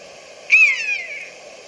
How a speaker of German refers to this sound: Ist ja geil, dass die hier so eine Spur haben. Auf der Seite deutsche Vogelstimmen.